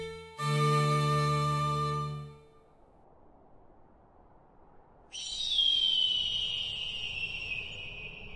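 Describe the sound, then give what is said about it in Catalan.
A falcon in the mountains calls with a long, high-pitched cry that slides slowly downward and holds steady. It follows an earlier low, hooting tone that stops, leaving a soft background hiss. “Ja sents? És un falcó.”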